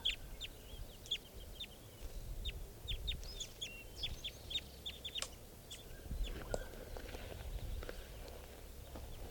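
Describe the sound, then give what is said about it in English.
A flock of birds calls while foraging in a fairly large lodgepole pine at a camp: a busy stream of short, high chirps overlapping throughout, over a low steady outdoor rumble. No one speaks. “The flock is calling from the tree here.”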